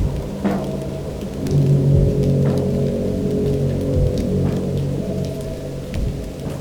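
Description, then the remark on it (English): Steady autumn rain falling in a continuous soft hiss, with a few sharper drips and splashes, over a low, sustained humming drone; no voices. “Chilling autumn rains.”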